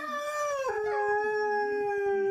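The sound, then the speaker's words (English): Hounds bay in long, drawn-out howls, overlapping voices holding and gliding in pitch, loud, with no talking. “Those hounds are baying.”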